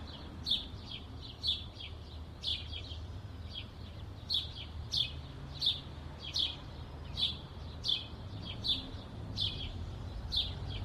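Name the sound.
bird chirping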